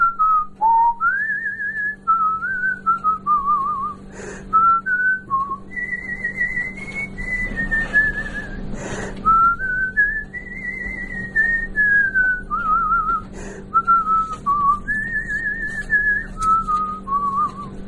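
A person whistles a meandering tune with sliding, wavering notes, clear, over a steady low hum and occasional faint clicks, with no talking.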